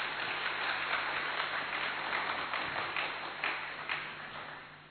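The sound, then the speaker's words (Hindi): An audience of Indians claps steadily, a dense wash of many hands that stays fairly loud throughout and fades a little toward the end, with no voices standing out. “भारत में जन्म होना ये बहुत ही भाग्य की निशानी है भाई, ताली तो बजाओ।”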